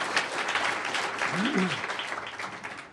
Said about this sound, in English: So could you give yourself a round of applause? All right, good job.